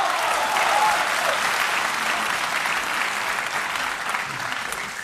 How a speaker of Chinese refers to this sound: 大伙儿鼓掌了，说明一个问题。 嗯， 您喜欢听相声？